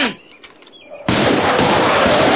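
After a quieter second with faint tones, heavy gunfire suddenly erupts and continues as a loud, dense, unbroken barrage that fills the rest of the moment.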